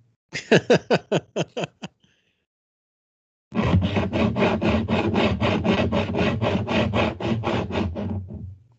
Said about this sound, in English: God, are you sawing something? Yes.